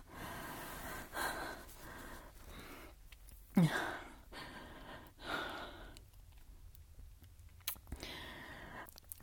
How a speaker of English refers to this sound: Are you okay? You're breathing pretty hard.